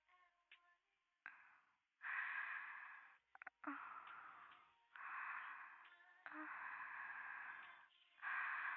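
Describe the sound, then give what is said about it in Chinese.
Close, breathy inhales and exhales right at the listener's ear, a teacher character's breathing in an erotic role-play, several long airy breaths in a slow, uneven rhythm, fairly loud with brief pauses between them and no talking. “老师的呼吸声就在你的耳边，一会儿是温柔的情话，一会儿是严厉的命令，就这样的撩拨着你的欲望。”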